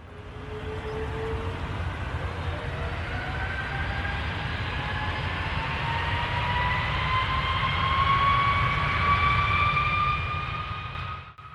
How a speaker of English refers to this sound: The sound from the loud, roaring aircraft engines interrupted my thoughts and brought me back to my flight. It's time for takeoff.